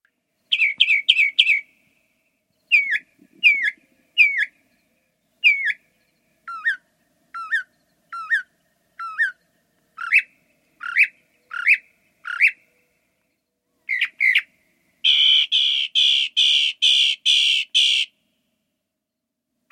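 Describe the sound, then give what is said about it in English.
A northern mockingbird sings alone in varied bursts: quick repeated chirps, a run of sharp whistled notes, then a rapid harsh phrase repeated several times, loud with no talking. “That was the northern mockingbird”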